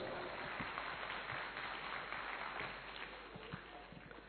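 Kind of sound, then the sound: crowd, loud applause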